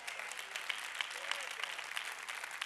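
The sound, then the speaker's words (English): A handful of faint, scattered claps from an audience at a Wednesday night church service, irregular and sparse, sounding thin over a steady background hiss for a couple of seconds. “Thank you for those several week claps.”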